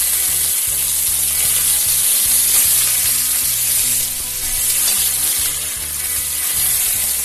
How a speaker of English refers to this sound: Okay, now when that time is up, we're going to use our tongs to take those pieces out. And put them on a plate or a bowl to rest. And now we'll finish browning the rest of the chicken.